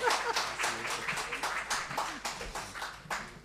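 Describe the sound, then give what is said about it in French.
A crowd spontaneously applauds three workshops and their rapporteurs for their synthesis work, many hands clapping in a dense, continuous patter with sharper individual claps standing out, moderately loud throughout. “J'allais vous proposer d'applaudir ces trois ateliers et leurs rapporteurs pour ce travail de synthèse, mais vous l'avez fait spontanément, donc je n'ai pas à le faire.”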